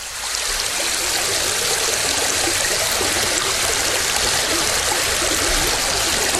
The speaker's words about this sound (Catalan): Així sona el riu Ter al seu pas per l'espresa de Colomers, si no m'equivoco.